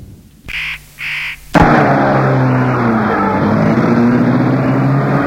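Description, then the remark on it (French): Two short cawing bird calls, then a car engine starts up and hums steadily as the car drives slowly along a private path, following a cyclist pedalling ahead of it, with no one talking. “Pédale devant la voiture et il la suit.”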